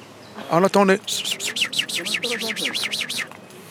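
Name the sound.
birds chirping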